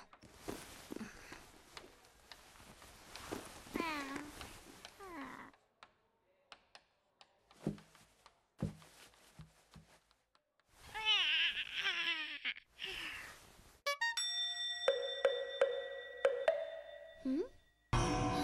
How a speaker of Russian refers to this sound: Кот? Кот! Кот! Кот! Кот! Он вытащил кота из сумки?